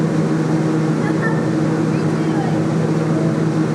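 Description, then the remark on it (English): A microwave oven heating noodles runs with a steady, unbroken low hum and a faint whirring drone layered over it, holding the same level throughout with no beeps or pauses. “I hear the microwave.”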